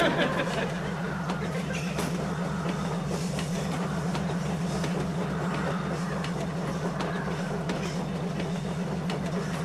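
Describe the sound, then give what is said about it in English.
A train rolls steadily along the tracks, a continuous low rumble with rhythmic clacks from the wheels, at an even, moderate loudness throughout. “Dear Lord, thank you for giving me the wisdom to take the train, and for the courage to stick to my convictions.”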